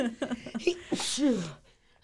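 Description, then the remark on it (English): A single sneeze with a sharp breathy burst, preceded by a few short vocal sounds and followed by quiet. “God bless you.”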